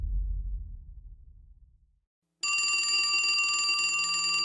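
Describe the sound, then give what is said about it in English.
A low rumble fades into a brief silence, then a telephone in a grimy office rings loudly, one sustained metallic ring lasting about two seconds. “The phone in the grimy office rang.”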